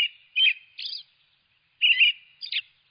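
American robins singing clear, warbling phrases in short bursts, two pairs of notes separated by a brief pause, distinct with no other sounds.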